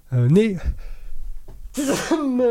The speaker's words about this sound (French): Je vais éternuer, je m'en excuse.